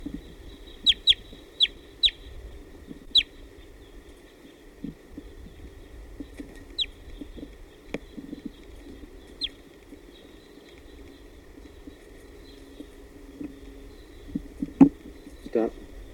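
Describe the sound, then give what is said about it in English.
Wild birds coming in, calling in short, sharp chirps, a quick cluster at first, then scattered single calls over a low, steady background hum with faint clucking-like sounds underneath. “I think some wild birds are coming.”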